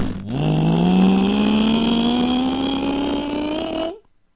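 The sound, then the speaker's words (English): A police officer's motorcycle engine roars at full throttle as she drives it as fast as it will go, its pitch climbing steadily as it accelerates hard for about four seconds, loud, before cutting off abruptly. “She hopped on her motorcycle and she drove it as fast as it would go.”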